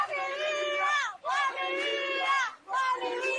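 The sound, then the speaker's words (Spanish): A crowd of residents protesting in the streets of Cuba shouts the slogan "Patria y vida" in unison, three loud chanted bursts separated by brief pauses, the massed voices strong and sustained. “mientras los vecinos salieron a la calle a protestar por las condiciones en las que están, también a pedir la libertad para los que están detenidos y a gritar lo que ya es un motivo de inspiración para todos los cubanos, a gritar patria y vida.”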